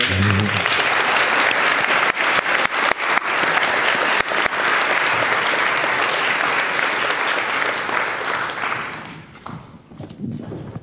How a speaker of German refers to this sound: Danke für den Applaus. Ich nehme das stellvertretend für das ganze Team und auch für unsere super Hosts des Infrastructure Reviews entgegen.